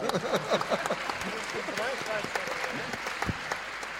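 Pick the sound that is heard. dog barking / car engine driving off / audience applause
audience applause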